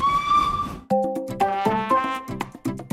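A steady, high steam locomotive whistle blast over a wash of hissing steam lasts under a second, then cuts to a bouncy instrumental tune with stepping notes and sharp percussive clicks.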